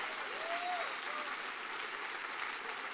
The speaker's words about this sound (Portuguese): Pode aplaudir Jesus com alegria. Vai aplaudir no Senhor com alegria.